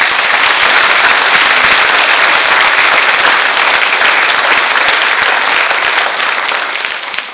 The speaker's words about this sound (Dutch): Ik wil heel graag iedereen bedanken die heeft meegewerkt aan deze dienst. Jullie als commissie, mensen achterin, hier vooraan. Maar ik vond het ook heel fijn als jullie hier vanochtend waren. Zullen we gewoon al die mensen even een applaus geven?